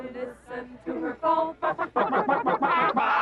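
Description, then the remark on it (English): A voice imitates a hen clucking, with a quick run of rhythmic, pitched bawks that speed up and grow louder toward the end, clear. “Oh, listen to her call.”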